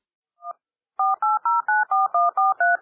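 Telephone keypad dialing tones: one short beep, a brief pause, then a quick, steady run of about eight clear, evenly spaced touch-tone beeps, fairly loud, with no voices.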